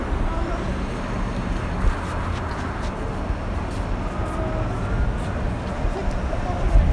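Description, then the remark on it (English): An older train rolls into a station with a steady, loud low rumble and faint metallic squeals riding above it. Muffled voices may sit beneath the noise. “This train is really coming.”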